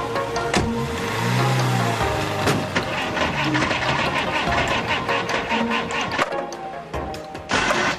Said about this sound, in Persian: چه؟ روشن نمیشه؟ برو پایین هول بده. ماشین توه، من هول بدم؟ تو که میشینی توش حالش بد میشه، روشن نمیشه.